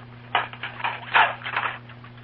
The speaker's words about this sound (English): You recognize that sound? Well, it's Mrs. Brown washing up the dinner dishes.